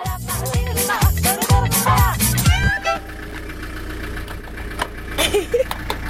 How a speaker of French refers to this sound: Et puis, j'ai vu son camion arriver. Un raffut d'enfer.